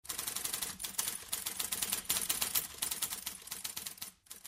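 Rapid, steady clacking of typewriter keys, crisp, with dense bursts of strikes continuing almost without pause before a brief break near the end.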